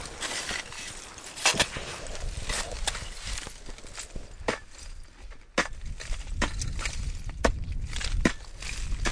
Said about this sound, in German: Nach über 3 Stunden, die beiden erreichen einen windigen, steilen Bergrücken. Chaotisch aufgetürmte Felsbrocken, feuchter Schlamm schmatzt unter den Gummistiefeln.